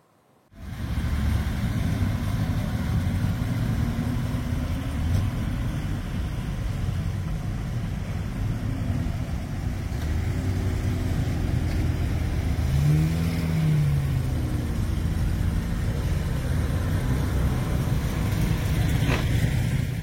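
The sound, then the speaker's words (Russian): The engine of a vintage Reo car runs steadily for about twenty seconds on a town square in Yodupe during a vintage car festival, a low rumbling idle with a brief rising rev partway through. No voices are heard. “Порадовав жителей города Йодупе, автомобили едут дальше по маршруту выходного дня, радуя ностальгическим послевкусием и отлаженными моторами.”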